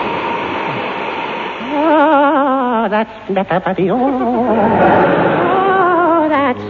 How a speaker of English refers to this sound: Don't let that steam get up your leg. Or you'll get the dreaded Manchu knee cramp.